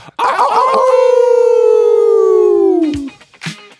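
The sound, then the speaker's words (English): A person imitates a wolf howl: one long, loud, sustained tone that holds steady for nearly three seconds before sliding downward and breaking off, followed by a short vocal burst. “Just give me a howl, baby.”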